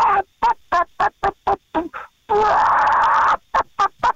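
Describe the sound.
A person imitates a clucking hen: a quick, even run of short clucks, one drawn-out nasal squawk, then a few more clucks to finish.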